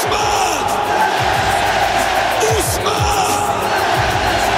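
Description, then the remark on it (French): A loud stadium crowd applauds and cheers in a steady, dense roar, with a mass of overlapping voices and shouts rising and swelling throughout, welcoming the 22 players back from Budapest onto the pitch; the number 10 draws the most applause. “Mais la bataille de l'applaudimètre, elle est remportée par le numéro 10.”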